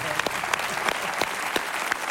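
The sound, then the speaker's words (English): An audience claps steadily for about two seconds, a dense, even patter of many hands with a few sharper claps standing out, moderately loud. “Doesn't that make you want to clap?”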